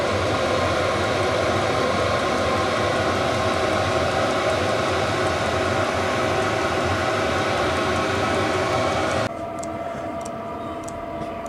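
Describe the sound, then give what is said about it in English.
A space heater, warmed up for 10 minutes and set to its lowest setting, runs with a steady, loud whooshing roar and low droning hum, blowing hot air from its exhaust. Near the end it drops abruptly to a quieter, thinner hiss with faint ticking. “Okay, the heater's had 10 minutes to warm up. I've got it now on its lowest setting, and it's just cruising along and giving me a lovely ambient warmth.”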